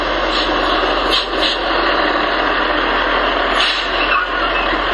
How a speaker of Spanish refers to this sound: ¡Camión! ¡Camión! ¡Gente, por favor, paren!